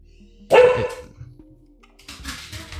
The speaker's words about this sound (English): Dog is barking. Yeah, sorry.